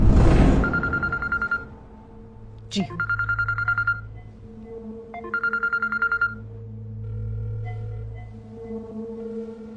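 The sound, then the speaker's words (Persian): A mobile phone rings in three short trilling bursts, evenly spaced with pauses between, over a low steady hum and a sharp click partway through; nobody picks up. “چرا گوشی تو جواب ندادی؟”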